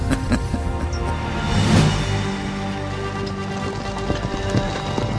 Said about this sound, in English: Two 2,000 horses galloped through the night, each one with a royal guardsman at the reins and a young Endelite at the back.